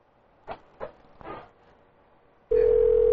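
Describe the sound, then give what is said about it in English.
A few soft clicks and rustles of a handset being picked up to call a sports business, then a loud, steady telephone dial tone switches on abruptly and hums without a break to the end. “All right, we'll call Big Ball Sports.”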